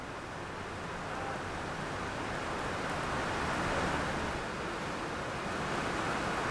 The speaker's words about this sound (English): I am here at Transplanting Traditions, and right now we are hearing The Rain